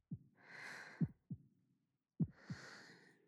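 Soft, low heartbeat thumps in a slow lub-dub rhythm, heard in the right ear, quiet, with a faint breathy hiss rising between beats and no talking.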